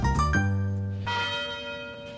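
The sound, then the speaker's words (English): The University Tower chimes at the University of Detroit Mercy ring out with two resonant bell strikes about a second apart, each leaving a long, shimmering hum that fades slowly. No voices. “The University Tower chimes ring in another session of Ask the Professor”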